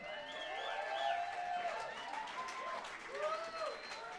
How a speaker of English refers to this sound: let's give a big, big warm round of applause to … and his crew for opening up the show tonight.